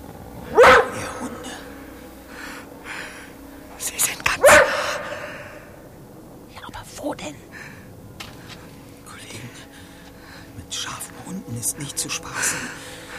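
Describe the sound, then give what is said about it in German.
Two sharp, loud wolf barks about four seconds apart, followed by quieter stretches with hushed, whispering voices and rustling in the background. “Da war jetzt aber wirklich was. Ich hab's auch gehört. Wölfe.”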